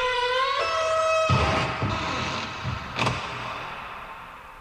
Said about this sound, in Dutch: Ja, kijk of ik die deur open kan krijgen